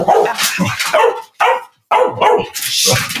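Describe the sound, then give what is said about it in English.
A female dog barks loudly in a rapid series of sharp, repeated barks with brief pauses between bursts, no talking over it, barking because a package is being delivered to the house. “sorry, dog. Stop. There's nothing there.”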